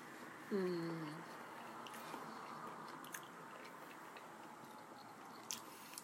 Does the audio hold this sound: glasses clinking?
no